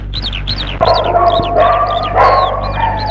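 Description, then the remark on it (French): Dogs bark and snarl as they rush at and attack a person, in a frantic, overlapping, loud burst, with rapid high yelps layered over harsher growling surges above a steady low hum. “Les chiens se ruent sur Sylvie.”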